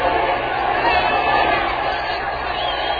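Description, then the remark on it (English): A dense, steady roar from a large baseball crowd cheering wildly fills the whole stretch, loud and unbroken, with a muffled, old-recording quality and an excited stadium murmur throughout, as a batter comes up with a runner on first in a tied game. “The crowd's going wild.”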